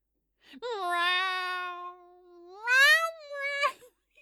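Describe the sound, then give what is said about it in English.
A human voice sings a long, drawn-out meow imitating a cat, holding a steady note before swooping up in pitch and dropping off, fairly loud, with no other sounds. “Oh, Jesus, I'm not singing this like a cat. Oh, yes, I am.”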